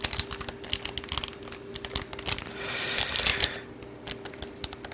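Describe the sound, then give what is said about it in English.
Rustling and clicking as the packaging of an Odroid C2 single-board computer is handled during unboxing, with quick tapping sounds and a denser crinkling swell midway through, no voices. “They require scissors, so bring your scissors with you, folks.”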